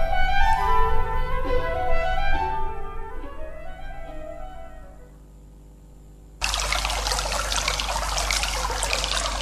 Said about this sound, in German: Hallo Leute, ich bin die Wispe und plätschere schon eine ganze Weile von meinem Quellpunkt aus, der im Hagental liegt, in Richtung Kaiade.